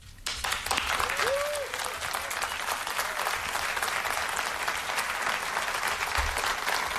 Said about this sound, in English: Sustained applause on this.